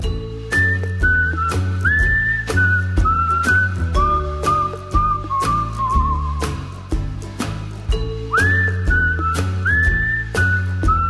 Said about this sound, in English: You have a professional whistler